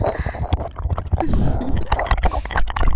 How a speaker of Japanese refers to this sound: 高速で舌が耳の至るところを這いずり回って、蛇のようにうねりながら熱い吐息と唾液で耳を塗りつぶしているのです。